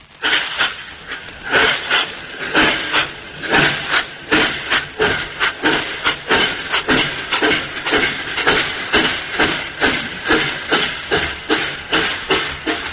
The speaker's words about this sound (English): The record is called Rail Dynamics, and it's one of the most interesting and ingenious recordings in the Sounds of Our Times series. The trains, I judge from the record case, are supplied by courtesy of the New York Central.